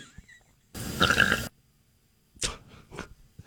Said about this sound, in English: And I was making all the gurgles. I was just trying to swallow water with electrolytes in it.